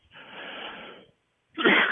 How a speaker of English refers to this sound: Excuse me. I'd like to cough that one away.